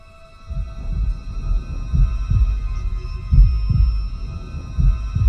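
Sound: heartbeat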